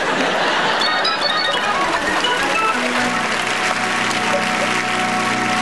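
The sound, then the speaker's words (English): A crowd applauds steadily and loudly for several seconds, a dense wash of many hands clapping at once for the speaker saying he is married, without any talking over it. “You know, when you get, you're clapping for my marriage.”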